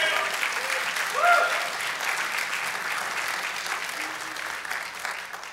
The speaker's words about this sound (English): Thank you so much for being with us. The pulpit's all yours. Let's give him a round of applause as he comes up.